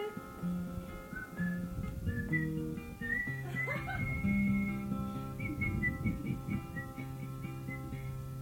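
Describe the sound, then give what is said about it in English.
Someone whistles a short, stepping melody of clear held notes, steady, over a low, busy backdrop of sustained tones throughout. “You impudent little daughter, what makes you whistle now?”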